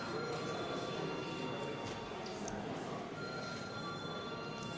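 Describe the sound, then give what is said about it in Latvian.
A parliament voting bell rings steadily without pause for about five seconds, called for just before deputies vote on a bill. It is a loud, harsh, buzzing electric clangor that holds a constant level with no talking over it. “Lūdzu zvanu.”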